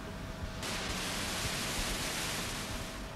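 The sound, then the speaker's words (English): Synthesized white noise: a steady, dense electronic hiss that turns brighter and fuller after the first half-second, then holds evenly at a constant level with no voices. “A more complex sound still is white noise.”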